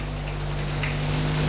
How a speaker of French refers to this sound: Là, dans la salle de bain, quitte son caleçon, et fait couler l'eau.